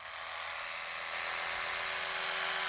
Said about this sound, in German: Das ist eine elektrische Zahnbürste, das Spitzenmodell des Herstellers Oral-B. Es unterscheidet sich von anderen elektrischen Zahnbürsten dadurch, dass es versucht, die Quadranten des Kiefers beim Putzen zu erkennen, um zum Beispiel Tipps zu geben